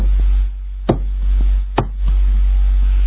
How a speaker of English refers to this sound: But he kept knocking.